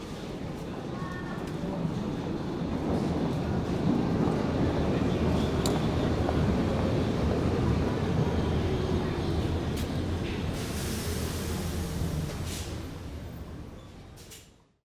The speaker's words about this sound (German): Am Gleis 3 fährt ein S7 Kreuzstraße. Vorsicht bei der Einfahrt.